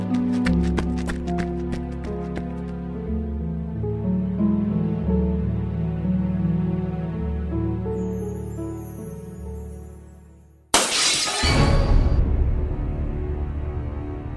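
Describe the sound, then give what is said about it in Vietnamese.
Soft sustained music plays, then cuts off abruptly as a clay piggy bank smashes loudly, a sharp crash followed by a brief scatter of shattering pieces settling. “Sao lợn đất lại bị vỡ thế hả”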